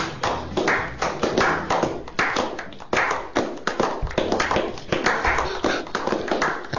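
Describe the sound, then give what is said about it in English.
Steady applause from a show audience, a dense rattle of many hands clapping at once that stays loud and even throughout, with no one talking over it. “and now Window World is proud to present, and please show how much you appreciate that he's part of the show with your applause,”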